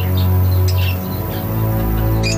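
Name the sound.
exotic birds chirping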